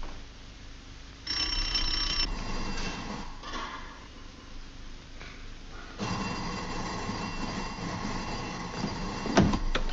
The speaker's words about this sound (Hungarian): Nem halljátok, hogy csengetnek? Mi nem mentek ajtót nyitni? Nem jön senki, apa javítja a csengőt.